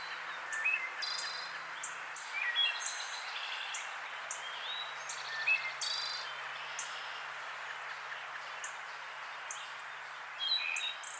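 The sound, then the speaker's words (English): Wood thrush song on a morning in the rural back country of Illinois: fluty, ringing phrases repeat every few seconds over a steady hum of insects, with other birds chirping faintly in the background of an outdoor chorus. “It's a wood thrush.”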